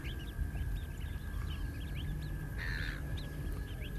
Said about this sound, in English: The bird we heard at the beginning, the solo tweeter, was a red knot. A big flock of them, rising up, setting out on their migration back north. There they go.